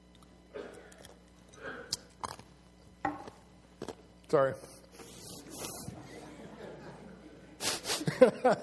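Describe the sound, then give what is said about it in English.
Someone crunches on ice: a series of sharp, irregular crackling bites, fairly loud, followed by a denser burst of crunching near the end, with a brief spoken word in between. “As I crunch away on the ice.”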